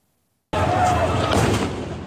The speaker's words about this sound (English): Chaos erupts as explosions are heard near an aid distribution point in Khan Yunis. Local witnesses say Israeli forces opened fire and fired tanks on people waiting for food.